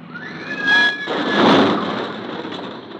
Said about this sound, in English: You're the driver of this car. Yes, officer, I am. I turned the corner and crashed into this parked car.